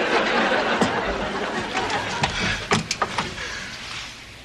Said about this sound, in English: What do I do now? You could open the door. What are my other options? You don't have any. Open the door.